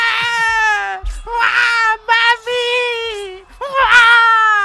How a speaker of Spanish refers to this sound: ¡Ay, qué dolor de niño, qué dolor de bebé! Llora más que Froilán